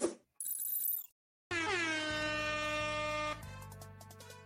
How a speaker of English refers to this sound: You hear the sirens, you know what it means. Emergency show.